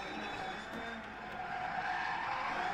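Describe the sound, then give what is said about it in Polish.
A video game car slides sideways in a drift, tires screeching steadily over a droning engine for a few continuous seconds, fairly loud, with no one talking. “Fajnie można boczurem pojechać tym samochodem.”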